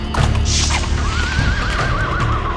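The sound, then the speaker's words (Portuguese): A red horse neighs in a long, wavering whinny that trembles up and down, heard clearly over a steady, dense rumbling background. “Olha o segundo cavalo.”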